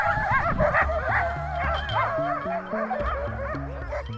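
Several dogs bark, yip and whine over one another in a continuous, loud chorus of wavering high-pitched cries, with a low droning tone stepping between pitches underneath. The dogs are in Ilulissat, Greenland, near the Ilulissat Ice Fjord Center.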